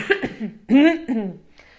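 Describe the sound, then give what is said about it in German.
A few loud coughs in quick succession, each a rough voiced burst, with a brief throaty follow-up and no talking around them. “Ich muss einmal husten, Achtung.”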